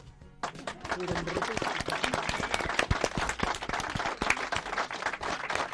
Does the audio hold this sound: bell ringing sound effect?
no